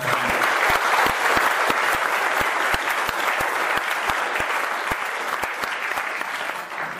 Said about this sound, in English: Obi, big applause voor Obi Powell.